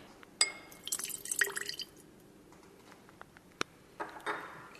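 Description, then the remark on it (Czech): Small splashes and trickling water with bright glassy clinks, then a few scattered drips and a final pour-like rush, fairly quiet with no talking, as 5 ml of water from a graduated cylinder is poured into a vessel holding weighed sodium acetate trihydrate. “Sipat ćemo 5 ml vode u naš sud sa odmerenim kriselohidratom.”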